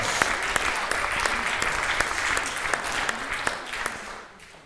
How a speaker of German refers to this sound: Ihr seid zu leise. Das ist ein Beifall wert.